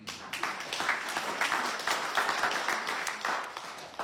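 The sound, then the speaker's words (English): A crowd applauds steadily, dense overlapping claps filling the space at a consistent moderate loudness for several seconds without pause. “Let's give her a hand.”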